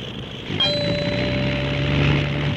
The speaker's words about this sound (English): He is striking that one note continuously. Yep, he is. Maybe that's the one.